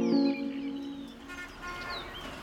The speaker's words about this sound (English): Birdsong may be music to our ears, but we live in a world where it is harder and harder to hear it.